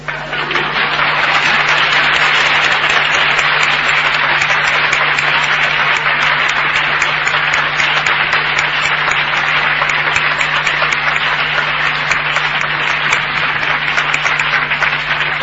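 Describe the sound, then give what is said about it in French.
A large crowd applauds steadily for about fifteen seconds, a dense, even wash of clapping that stays loud throughout, with a faint low hum underneath and no voices. “N'oubliez pas ma bonne main d'applaudissement.”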